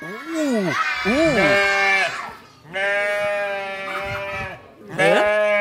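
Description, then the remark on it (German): A recording of a sheep bleating is played over loudspeakers at a live event with about 400 people: three loud bleats in a row, each wavering, nasal cry lasting a second or two with short pauses between, heard on its own without talking. “Also es mäht man irgendwas.”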